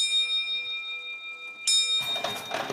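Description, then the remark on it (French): The bell of the Cour de Marbre clock at the château rings with a steady, lingering metallic tone, then a clatter of gears and mechanism noise rises in the clock room, rattling and whirring near the end. “On est sorti des appartements de Pompadour et on est monté au local de l'horloge de la Cour de Marbre.”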